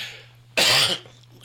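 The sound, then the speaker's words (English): A single sharp cough, loud and brief, set off after the speaker is startled by a phone talking, then fades back to a faint steady hum. “and then makes me cough.”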